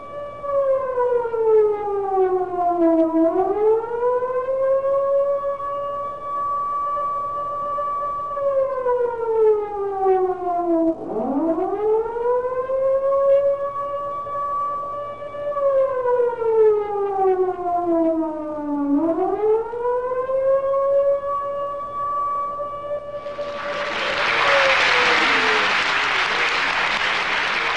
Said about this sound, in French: Cette sirène qui vient de retentir, c'est le 23 février 1991 à Jérusalem. On est en pleine guerre du Golfe.